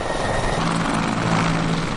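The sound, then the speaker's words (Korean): A helicopter's rotor and engine roar steadily and loudly throughout, a dense, continuous whir with a low droning hum underneath and no voices, during helicopter training for rescue dogs. “게다가 구조견들은 헬리콥터 훈련도 받습니다.”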